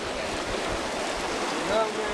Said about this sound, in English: How long will you do this? Like, what are you doing exactly? Why are you pouring the water slowly, slowly on the roots?